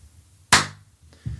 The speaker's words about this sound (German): Heilig mach mal noch mal, mal klatsch mal noch mal lauter. Lauter kann ich nicht mehr klatschen, mir reicht's jetzt schon wieder.